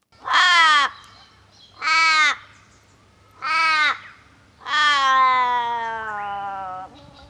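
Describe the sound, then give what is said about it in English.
An Australian raven calls three times in short, wailing, harmonic caws, then gives a fourth that stretches into a long, drawn-out, fading end. Loud, with no talking. “And that long, drawn-out end to the phrase there, that's the so-called Australian raven”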